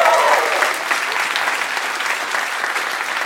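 Steady, loud applause from a large audience, dense clapping filling the whole stretch with a brief faint tonal note near the start and no pauses in the sound.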